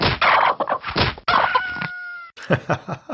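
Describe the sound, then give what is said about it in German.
Video game chickens cluck busily while a rooster lets out a drawn-out, strained crow in the middle; short, choppy clucks pick up again right after it ends. “Ey, die Hühner.”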